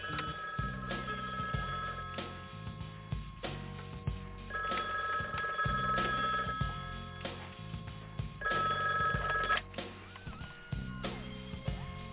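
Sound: telephone ringing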